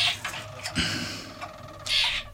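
A songbird sings in a full, rich, deep-toned voice, with rolling trills and bright bursts of notes over about two seconds. No one talks.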